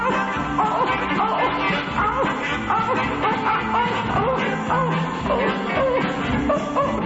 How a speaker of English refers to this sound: You know that hound is singing a song, boy. That sound like a buck.